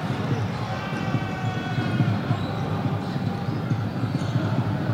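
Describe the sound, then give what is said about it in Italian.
A basketball is dribbled repeatedly on a hardwood court in a quick, steady rhythm during a basketball game involving Trento, the bounces set against a constant roar of arena crowd noise and indistinct voices. “La gira bene adesso Trento. Palleggia, resta il tiro da tre di Spagnolo”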